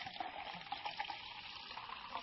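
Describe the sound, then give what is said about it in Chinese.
Honey tea pours steadily into a cup in a living room for about two seconds, a continuous bubbling, splashing trickle with no talking over it. “来来客厅坐啊，我给你倒一杯蜂蜜茶，你边喝边等。”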